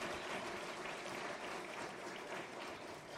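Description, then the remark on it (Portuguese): An audience applauds steadily to thank someone for helping lead the Lag Spaces project, a dense wash of many hands clapping at an even loudness throughout, with no voices rising above it. “E é por isso que queria agradecer e pedir a todos uma salva de palmas muito forte pela ajuda.”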